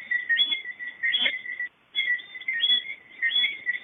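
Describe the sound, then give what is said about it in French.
A dense night chorus of small tree frogs in Martinique giving high, whistling chirps that overlap into a steady shrill trill, broken by one brief pause before resuming; no rooster crow stands out. “Les coqs chantent jour et nuit et les grenouilles toute la nuit.”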